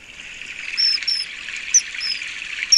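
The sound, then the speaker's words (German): A common kingfisher gives about five short, shrill, high-pitched piping whistles, spaced irregularly over a steady background hiss like flowing water; no one speaks. “Und wie macht der Eisvogel? Viele Leute haben ihn hier noch nicht gesehen. Warum? Die wissen nicht, wie er piepst.”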